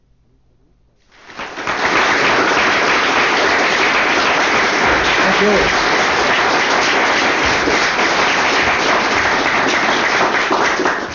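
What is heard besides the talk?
audience applause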